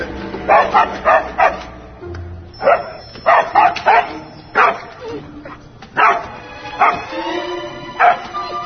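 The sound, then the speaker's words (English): A dog barks repeatedly in short, sharp bursts, fairly loud, with brief pauses between barks in an uneven rhythm that continues throughout. “Okay, doggy. You can have the last piece.”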